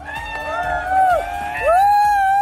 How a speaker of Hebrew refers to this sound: בואו נשמע אתכם שיאמינו לי כאן, שיש כאן הרבה אנשים, שיאמינו לי ברדיו. תנו עצמכם הרבה מחיאות כפיים.